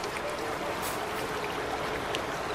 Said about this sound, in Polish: Tutaj widać w pełnej okazałości rzekę Tanew i te słynne progi, które zostały zarejestrowane jako unikatowe zjawisko na liście UNESCO.